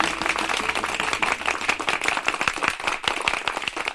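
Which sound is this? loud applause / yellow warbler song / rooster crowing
loud applause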